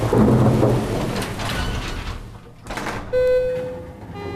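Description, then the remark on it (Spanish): A loud, deep roll of thunder from a morning storm rumbles over a steady hiss of heavy rain, then fades into the downpour as a sustained mid-pitched tone comes in near the end. No one speaks. “Mira, mira el tormentón que me ha caído esta mañana.”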